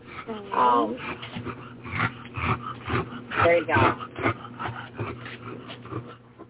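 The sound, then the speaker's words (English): A small female dog with a very narrow trachea snorts and wheezes through her airway, her normal way of breathing, with raspy, honking breaths and two louder squealing bursts rising and falling in pitch amid steady snuffling. “That's just her normal state of being because the poor thing has a trachea the size of a kitten.”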